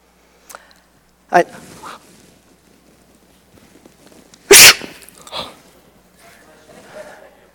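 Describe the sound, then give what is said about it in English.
A loud, sharp fake sneeze bursts out once, preceded by a quick intake of breath and followed by softer breathy sounds and faint murmuring. “Okay, that was a fake sneeze.”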